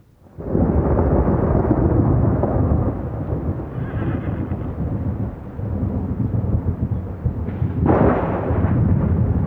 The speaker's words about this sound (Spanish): Las primeras gotas de lluvia anunciaban la tormenta.